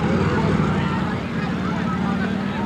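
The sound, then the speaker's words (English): The engines of four police motor scooters drone steadily and loudly on a highway in Washington where young demonstrators have stopped traffic, a continuous buzzing hum that holds for the whole moment, with indistinct voices mixed faintly underneath. “And here come the police. 1, 2, 3, 4 police on motor scooters.”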